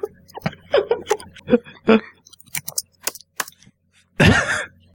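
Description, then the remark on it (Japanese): Typing on a computer keyboard during an internet search: a quick, uneven run of crisp key clicks, with brief vocal murmurs before it and a short, louder breathy burst at the end. “いいキーボードの音だ。”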